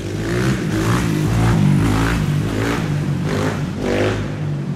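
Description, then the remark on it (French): A motorcycle engine revs hard during a wheelie on its rear wheel, its loud droning roar surging in repeated pulses about every second with no voices over it. “C'est dangereux de faire de la moto comme ça sur une roue à l'arrière?”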